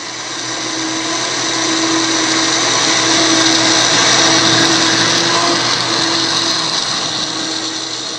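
A blender runs steadily at high speed, pureeing cereal flakes in water with a loud, dense whirring roar and a faint steady hum underneath, constant for the whole stretch with no voices.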